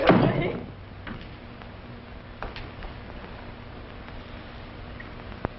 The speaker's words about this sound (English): goes out with Molly and shuts the door